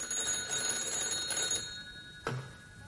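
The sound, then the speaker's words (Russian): In a director's apartment, a telephone rings with a steady, high-pitched electric bell trill for about a second and a half, then stops, followed by a short clunk like a receiver being lifted. “Она одевалась, когда зазвонил телефон.”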